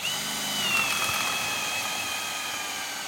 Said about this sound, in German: Die Zimmerer bohren in ein neues, helles Balkenstück, das in einen alten Balken eingesetzt ist. Zusammengehalten wird das Ganze mit Eisenstiften.